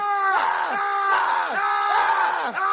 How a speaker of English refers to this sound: Marvin, what's all that yelling from Jeffy's room? He's probably throwing a temper tantrum because we won't let him go look for balls.